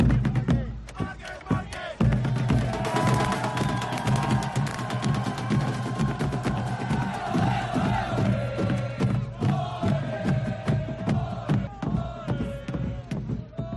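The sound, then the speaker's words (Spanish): A large crowd celebrates the Márquez brothers' world title loudly and continuously in the streets of Cervera, with many overlapping shouts and cheers forming a dense roar, some voices rising in sustained chant-like tones of "oe, oe, oe", punctuated by sharp bangs. “Hemos vivido este fin de semana, el sábado, la celebración de los hermanos Márquez, que sonaba así por las calles de Cervera.”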